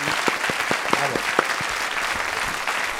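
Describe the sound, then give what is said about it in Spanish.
A burst of studio audience applause for the show's panelists: many hands clapping in a dense, steady patter at even loudness for the full few seconds, with no voices on top. “Fuerte aplauso para nuestros contertulios.”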